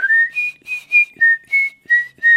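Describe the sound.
A clear whistled musical motif representing a bird, short bird-like phrases with several bright notes gliding between pitches in a lively, chirping rhythm, with no talking.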